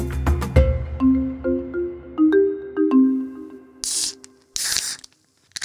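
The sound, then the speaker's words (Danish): Foam sprays from a freshly opened bottle of pilsner beer in two short hissing bursts, following a brief sequence of bright, plinking melodic tones. “Med skumsprøjt og det hele.”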